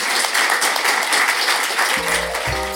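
An audience breaks into a sustained round of applause for the panellists at the end of a panel discussion, a dense, steady crackle of many hands clapping, with a few low musical notes entering over it near the end.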